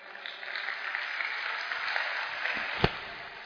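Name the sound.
audience applause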